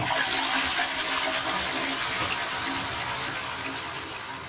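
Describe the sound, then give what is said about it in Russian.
A toilet flushes at the press of the flush button, with a loud, steady rush of water that hisses broadly across the range, then gradually tapers off as the tank drains. No one speaks. “И я перекрестился с облегчением, нажав кнопку спуск.”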